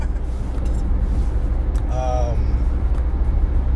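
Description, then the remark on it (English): A steady, low rumble of a car rolling through traffic on a cold, rainy day fills the whole stretch, with a short tonal sound rising briefly near the middle. “We're driving in traffic, and then this guy's just running crazy.”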